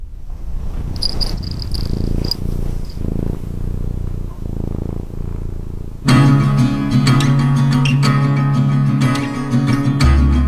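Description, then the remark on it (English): A cat purrs in a steady, rhythmic rumble for about six seconds. Then the purring gives way to loud music with sustained tones. “Let's see how the cat's doing.”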